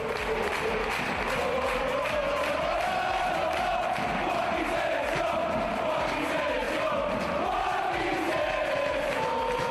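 A large stadium crowd chants "Joaquín selección" in unison after a goal by Joaquín in Real Betis's 3-2 Europa League win over Ludogorets, a loud, sustained roar of voices rising and falling in a rhythmic, sing-song pattern, with scattered clapping and cheers underneath.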